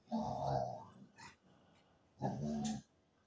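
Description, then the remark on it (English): A dog makes two drawn-out, grumbling groans while rolling around on the floor on her back, scratching it, with a short quiet pause between them and no one talking. “She's rolling around on the floor on her back, scratching it. She can't do it silently.”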